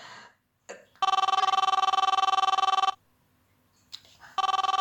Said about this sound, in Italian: il telefono?